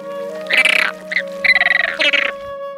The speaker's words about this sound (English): Flamingos sound like this.